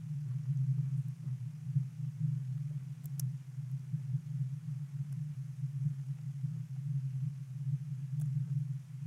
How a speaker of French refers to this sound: grave, continu, tout le temps, le jour, la nuit. Presque imperceptible, mais là. On s'est demandé ce que c'était. Peut-être le grand frigo, celui qui permet de rafraîchir la montagne, de tenir la neige en neige.